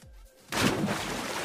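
After a brief quiet lead-in, a big cannonball splash sound effect for water erupts: a sudden, loud burst of water that churns and sprays for about a second, with no talking.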